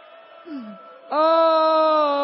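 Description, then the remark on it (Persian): A person's voice imitates a crying, wailing baby: a short whimpering slide, then a loud, sustained wail held steadily to the end, unaccompanied. “چند تا چیز از بچه یاد بگیر، وقتی چیزی رو دیر بهش میدن داد میزنه گریه میکنه، مادر زود میدوه بغلش میکنه.”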